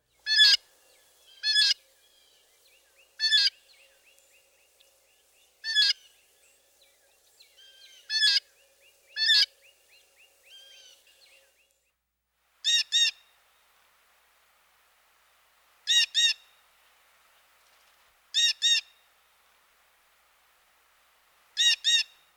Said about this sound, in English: Our next commoner is the blue jay, whose vocalizations are known to many.